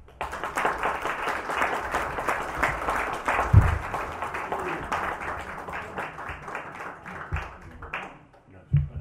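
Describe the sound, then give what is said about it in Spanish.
An audience applauds steadily for about nine seconds, a dense wash of many hands clapping that thins slightly toward the end, with a few dull low thumps mixed in. “El aplauso no para mí, soy solo su acólito.”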